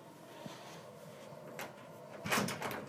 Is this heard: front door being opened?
yes